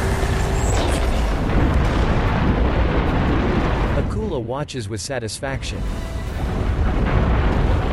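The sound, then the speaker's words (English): An American ship, one of its rockets on fire, flies into a spewing tower of magma, crashes into the magma and explodes in a loud, sustained, rumbling roar that fills the whole clip, while a voice speaks briefly over the din midway through. “The ship crashes into the magma and explodes.”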